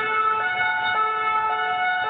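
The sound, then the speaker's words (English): A French police siren sound effect played from a soundboard blares its two-tone hi-lo wail, pitch alternating steadily about twice a second, loud with no voices over it. “Yes, French police siren. Always a winner.”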